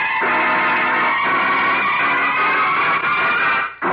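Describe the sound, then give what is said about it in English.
A car engine roars to life and keeps running loud, a steady rumbling drone as the car pulls away, cutting out briefly near the end. “Come on, Lou. Get this car rolling.”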